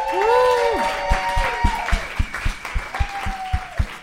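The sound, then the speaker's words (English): An audience at the show Long Night claps steadily for a guest while shrill whoops and drawn-out cheering cries ring over the top, the cheers fading out as the clapping carries on to the end. “How about another round of applause for Ian Daniel Kehoe?”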